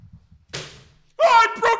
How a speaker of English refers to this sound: I literally broke your chair. That was the greatest moment in podcast history, and I literally leaned back to admire myself, and broke your chair.